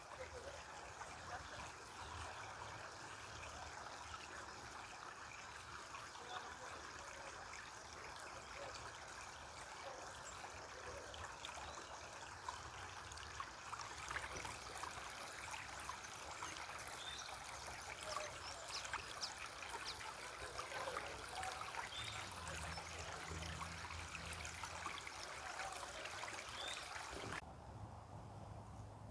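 flowing stream water

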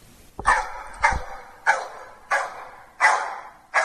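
two dogs barking

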